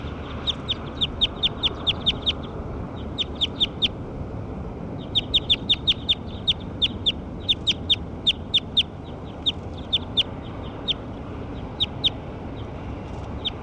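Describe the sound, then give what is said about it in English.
Calls of bird 6: bursts of sharp, high-pitched chirps repeated in quick clusters, pausing briefly between groups, over a steady rushing background noise. “Those are the calls of bird 6.”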